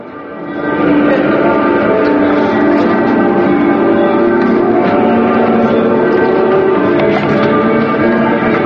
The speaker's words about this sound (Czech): I dok su u Srbiji odjekivala crkvena zvona, u hramu Svetog Save na molebanu za Kosovo okupilo se svega 100 ljudi.